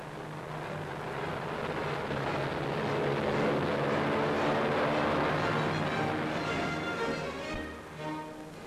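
The steady droning engine of a German aircraft landing in the harbour of Bergen, Norway, roars over wind and water noise, swelling louder midway as it passes, then easing off, with no voices.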